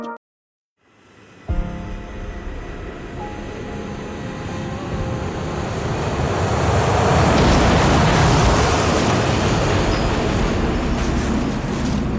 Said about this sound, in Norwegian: Vraket fra kollisjonen mellom flyene gjaller gjennom tåken på Los Rodeos flyplassen.